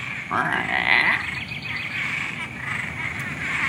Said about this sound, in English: And I'm hearing these Cuban tree frogs, and the mnemonic I use for them is like a door in a scary movie.